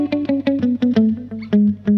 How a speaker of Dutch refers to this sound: Die echo wordt nu een soort galm. Hè? Er zijn gewoon een paar echootjes op elkaar.